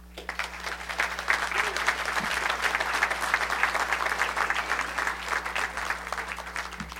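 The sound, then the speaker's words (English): An audience at a public meeting on the Organ Mountains-Desert Peaks, attended by Secretary Jewell and Senators Heinrich and Udall, claps steadily for several seconds. It is a dense, even patter of many hands with no voices rising above it, sustained at a moderate level throughout. “Again, if we could save the clapping until afterward, thank you.”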